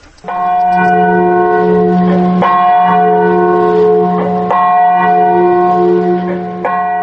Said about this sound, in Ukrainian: Дзвін Катинського меморіалу дзвонить у пам'ять 4 тисяч представників польської еліти, замордованих НКВД у 40-му році в лісі біля Смоленську. З 10 квітня минулого року він нагадує також про 96 представників польської еліти нового часу